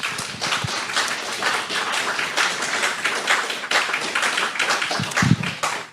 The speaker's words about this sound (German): Vielen, vielen Dank an alle, die hier mitgeholfen haben. Das hat nochmal einen kräftigen Applaus verdient.